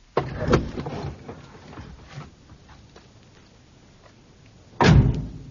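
A car door clicks and creaks open at the start, followed by quiet rustling, then the door is shut with a loud, solid thud near the end.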